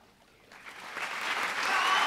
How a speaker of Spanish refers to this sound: Bien, ¿y qué les parece si redoblamos ese aplauso para todos los jóvenes que hoy se animaron a pasar por las aguas del bautismo?